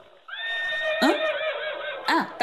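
A horse whinnies loudly, a long quavering neigh with rising and falling pitch that ends in a couple of sharp snorting bursts.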